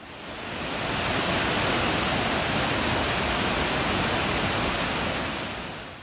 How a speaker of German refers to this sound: Und der ist landschaftlich auch wirklich beeindruckend mit Wasserfällen wie den Florence Falls, den Wangi Falls. Ich habe da mal ein kleines Soundbeispiel.